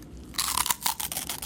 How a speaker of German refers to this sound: Es knuspert da hinten vorne. Knuspert jetzt ehrlich auch so laut, wenn ich... In meinem Kopf verstehe ich die fast nie, weil so laut bei Zwieback knuspert. Knuspert jetzt gegen aus auch so laut?